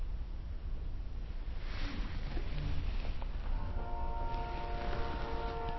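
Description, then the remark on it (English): A steady, low rumbling background, then about halfway through a sustained tonal train whistle rises and holds a mid-pitched, chord-like tone until the end. No one speaks. “We have the train whistle.”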